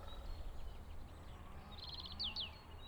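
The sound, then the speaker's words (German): Birds chirp in spring in a quick burst of high, bright notes midway through, followed by a couple of sharp downward tweets, set against a steady low outdoor rumble. “Ja, man merkt, es ist Frühling, die Vögel zwitschern, der Specht klopft, genau, und die Taube gurt, eigentlich schön.”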